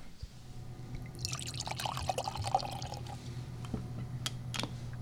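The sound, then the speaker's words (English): Cider pouring into a glass at a cidery on Vashon Island, a bubbly gurgling stream that starts after a moment, runs for a couple of seconds, then tapers into a few drips and clinks. No one speaks. “So could I hit you up to taste a little cider?”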